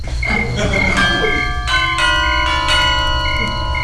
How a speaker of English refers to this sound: Ring the bell.